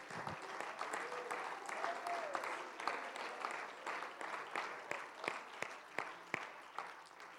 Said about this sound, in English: Would you give the Lord a hand clap of praise right now?